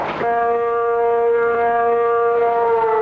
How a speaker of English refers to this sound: What the hell? We got an air raid going here. That's the noon whistle. That's the noon whistle? That's a frightening noon whistle. Does that happen every noon? I think so.